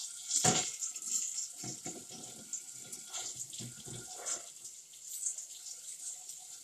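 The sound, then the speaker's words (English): Water runs steadily from a tap into a sink with a broad hiss, broken by splashes and clatter as dishes, including plates, are rinsed off under the stream before going into the dishwasher, with a few sharper knocks and bursts along the way. “And in our family, we're not like the best at washing dishes, so we like rinse them.”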